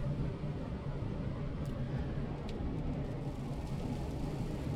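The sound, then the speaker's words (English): Steady road rumble from inside a car driving in rain in heavy traffic right next to a semi-truck in Colorado, with a couple of faint windshield wiper swipes brushing over the continuous drone; no one talks. “I got to do windshield wipers. I have to also not have a wreck because I'm right next to a semi-truck in a bunch of traffic.”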